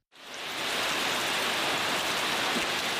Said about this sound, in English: Rain soaks what is left of the EYN Church in Michika. The last service here in September 2014 ended in gunfire when Boko Haram insurgents stormed the town. Within days, they reduced the church to rubble.